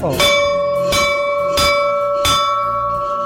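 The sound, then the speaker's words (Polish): A hand-rung alarm bell, used here to greet guests, clangs four times at a steady pace, loud, each strike leaving bright metallic overtones ringing between hits. “Ale ten dzwon między innymi ja tutaj używam do czego? A witam gości.”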